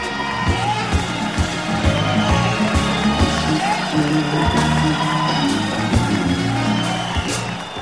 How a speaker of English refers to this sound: If you will, let's give a big round of applause to …